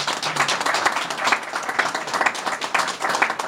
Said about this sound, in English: I think that deserves a big round of applause.